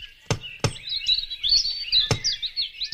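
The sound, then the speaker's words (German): Knocking on a door: two quick, firm knocks, a pause, then a third, solid, while birds chirp and sing steadily in the background. “Ich klopfe jetzt mal.”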